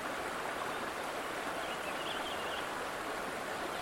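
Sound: river water flowing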